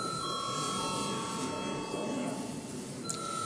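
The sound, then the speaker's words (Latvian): A continuous electric bell rings steadily for several seconds in a parliament, calling members to a vote on a bill, a sustained bright tone that holds an even level over a faint background murmur. “Paldies, lūdzu zvanu.”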